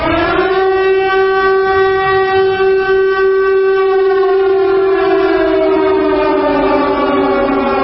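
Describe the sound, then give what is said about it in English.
A loud air raid siren wails steadily on one sustained pitch, continuous with no talking, its tone beginning to sag slightly lower toward the end. “Then about a year ago, I started playing air raid sirens about once a week.”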